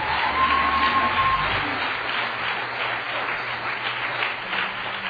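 A crowd applauds in a steady, dense wash of clapping that holds at an even, moderately loud level for the full five seconds, with no voices breaking through.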